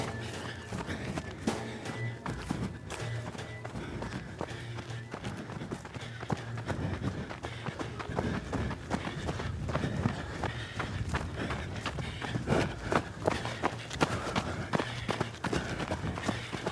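running footsteps and breathing

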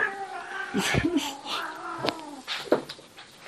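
cats fighting and caterwauling

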